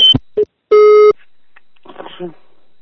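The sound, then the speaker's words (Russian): A loud, steady telephone busy tone beeps after the call ends: two short bursts, then a longer one, followed by faint, muffled voices in the background. “Алло, отключаю телефон, не звони.”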